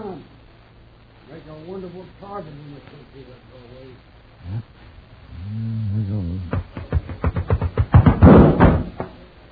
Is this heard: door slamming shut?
yes